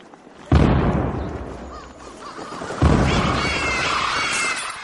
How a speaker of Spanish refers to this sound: Un cañonazo repentino, una salva disparada por la artillería dispuesta sobre el césped, dispersó a los cuervos que se habían posado en las palmeras. Un total de 31 cañonazos, honor reservado al virrey